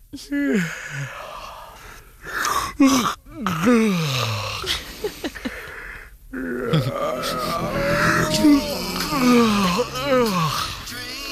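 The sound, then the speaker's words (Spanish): Two people trade exaggerated, drawn-out yawns one after another in a yawning contest, each a loud groaning sweep with gasping inhales, almost continuous for several seconds. “Oye, ¿puedo hacer, perdona, ¿puedo hacer una partida contigo de bostezo o qué?”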